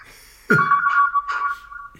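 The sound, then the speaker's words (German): A telephone rings with a bright electronic ringtone that starts abruptly and warbles in short melodic bursts, loud, with no one talking over it. “beim Helmut klingelt's Telefon”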